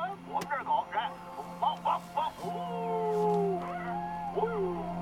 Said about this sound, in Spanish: haz que tus perros ladren de nuevo, por favor. Que ladren, que ladren, sí.